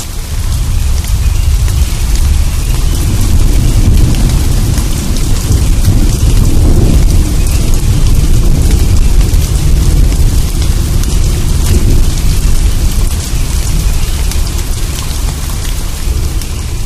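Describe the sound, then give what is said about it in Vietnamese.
A heavy thunderstorm: steady, loud rain hisses throughout while deep thunder rumbles roll and swell underneath, building around the middle and again near the end. No voices. “Tại sao vẫn còn tiếp tục sấm động?”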